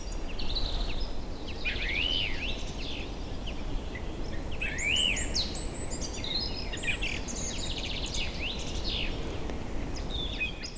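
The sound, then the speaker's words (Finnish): A European robin sings a run of high, thin, warbling phrases with brief pauses in a spruce forest at dusk, over a steady, rushing outdoor background hiss, with no voices present. Water drips from spruce branches after daytime rain. It is a few degrees above freezing and the snow has turned to slush. “Ja siellä kuusikon kätkössä omassa maailmassaan laulaa tuo punarinta.”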